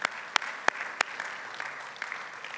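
A church group applauds a member on a Sunday morning in a steady, dense patter of clapping, with a few sharp, louder claps standing out in the first second before it settles into an even wash. No one speaks.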